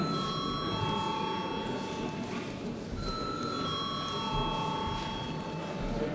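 A parliament voting call bell rings steadily for the whole stretch before a vote on a bill, a sustained electric ringing with bright overlapping tones, heard over a soft murmur.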